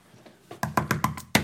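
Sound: knocking on a door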